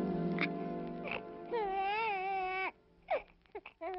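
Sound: newborn baby crying loudly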